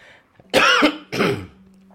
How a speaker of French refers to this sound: Ça me fait tousser.